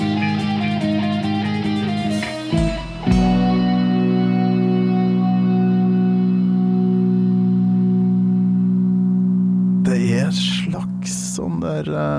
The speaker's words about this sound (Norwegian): Gong eller noe sånt som ligger i bakgrunnen her, ja. Langt i det fjerne.